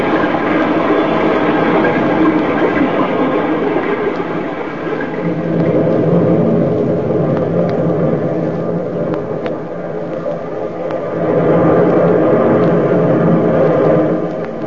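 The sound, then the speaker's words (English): A distant rumble of the sea rolls on steadily, a deep, loud roaring wash that swells twice as it goes, with no voices over it. “Far away you can hear the rumble of the sea.”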